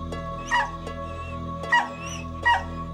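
A dog barks three times in short, sharp yaps spaced about a second apart, fairly close, over a steady low hum in the background.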